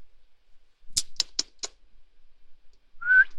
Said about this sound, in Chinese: 你吹什么口哨？真是流氓。